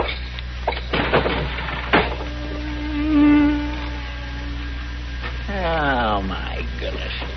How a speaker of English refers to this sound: I'd as soon get stung as listen to all that buzzing